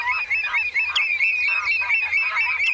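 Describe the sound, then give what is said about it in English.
A dense, continuous chorus of wetland birds, redshanks, coots and lapwings, calling over one another with overlapping honks and piping cries at a wetland National Nature Reserve just before spring, fairly loud, with no voices. “Redshanks, coots, and lapwings are just a few of the fine-feathered friends who sing-wing and strut their stuff at this wetland.”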